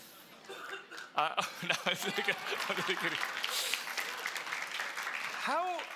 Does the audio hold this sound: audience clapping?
yes